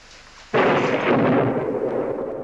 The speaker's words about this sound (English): It's only the wind. And the thunder.